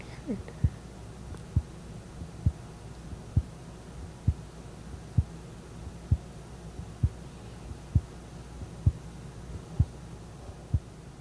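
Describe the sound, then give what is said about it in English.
A woman's heartbeat, recorded with her chest held right in front of the microphone while everyone went quiet: about twelve soft, low thuds at an even pace of roughly one per second, over a faint constant hum. No one speaks. “So she stood up from her chair and she sort of put her chest right in front of the mic, and then we all just got really quiet.”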